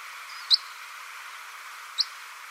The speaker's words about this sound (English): Pectoral sandpiper and some Arctic terns. Willow warbler, common red pole, and red-throated pipit.